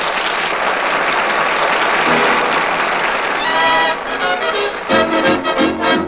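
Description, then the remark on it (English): A crowd at the Coconut Grove applauds loudly and steadily for a few seconds as a dance ends, then the clapping gives way as band music begins to play. “And now, as the dance ends, the crowd applauds.”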